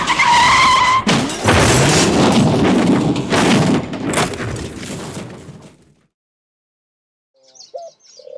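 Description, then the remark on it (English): A loud tire screech with a high whining tone as a car skids gives way to a heavy, sustained crash and rumbling impact as it hits the back of a delivery van, then fades to near silence before a few faint chirps at the end. “And just after that, we crashed into the back of a delivery van.”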